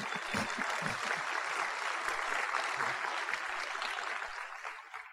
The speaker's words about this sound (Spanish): Y un fuerte aplauso para Amway.